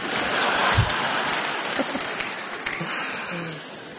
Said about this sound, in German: Jetzt klatschen alle, die vier Kinder und mehr haben. Jetzt klatschen die anderen.